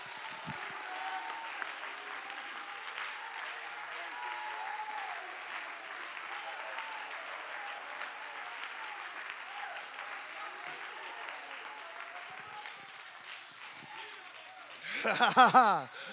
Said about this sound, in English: Come on, if you're thankful for the blood, give him a hand clap of praise in this house.